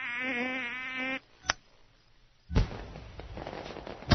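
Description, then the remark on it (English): A buzzing, whistling tone cuts off, followed by a sharp crack and then a loud burst that trails into crackling from a fireworks display. No one speaks. “what's going on, Verrier? A fireworks display.”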